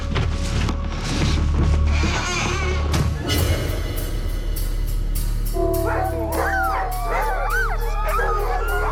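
A chorus of sled dogs barks and howls excitedly, overlapping yips and rising wails filling the air, growing into sustained howling toward the end, loud against a steady low rumble.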